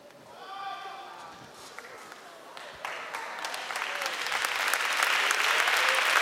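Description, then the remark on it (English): Applause from a church audience starts after a brief moment of voices and builds steadily into loud, sustained clapping, a dense crackle of many hands that keeps swelling to the end. “Don't clap, don't clap.”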